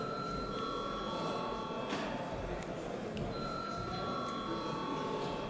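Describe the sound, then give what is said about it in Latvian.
A parliamentary voting bell rings steadily for several seconds before the vote on the seventh proposal, a sustained high, buzzing electric tone over a dense background hum, with no one speaking. “Cienījamie kolēģi, lūdzu balsojam par 7. priekšlikumu. Lūdzu zvanu.”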